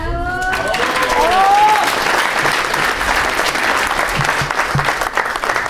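Loud, sustained applause from an audience welcoming a fellow activist being introduced, a dense wash of clapping that holds steady for several seconds, with a brief tonal voice at the start and a few low murmurs underneath.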